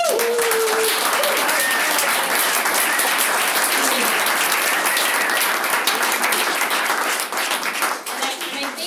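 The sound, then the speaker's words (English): A crowd applauds steadily at the start of an event's wrap-up, for nearly nine seconds: a dense, loud wash of many hands clapping at once that holds level before thinning slightly at the end. “So, but to start off with the wrap-up, I wanted to just have a big round of applause.”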